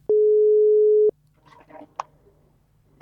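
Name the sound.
telephone tone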